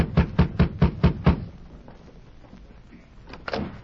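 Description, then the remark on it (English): A sheriff knocks six quick, evenly spaced times on the wooden door of a small cottage beside a mine, early in the morning. The knocks are sharp and fairly loud, followed by a quiet stretch and then a couple of softer thuds near the end. “The sheriff rapped on the door.”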